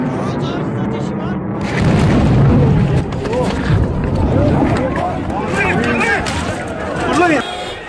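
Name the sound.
bomb explosion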